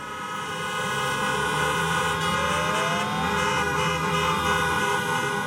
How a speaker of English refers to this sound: A few dozen protesters made their feelings known this week, sitting in their cars outside the legislature and honking horns, as captured by the News and Observer.